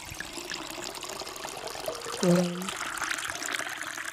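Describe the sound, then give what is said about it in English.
A drink is poured into a glass as a small second pour, a steady gurgling trickle running for several seconds, with a brief low hum rising partway through. “Does anyone else want another pour? I might give myself a little bit of one. A tiny splash.”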